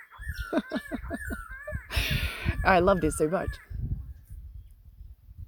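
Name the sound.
birds singing outdoors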